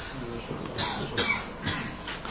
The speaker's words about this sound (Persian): حالا منم عذر میخوام، هم صدام شاید صدای نامطلوبی باشه و همین سرفه های پیاپی که میکنم، و میخواستم هم مشرف نشم خدمت شما آقایون، چون سرفه هم خیلی زیاد هستش،